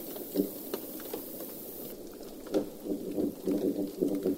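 Fish grunts made by compressing the drumming muscles on the swim bladder: a string of low, buzzy pulses, sparse at first and then in a quicker irregular run, over a steady underwater hiss.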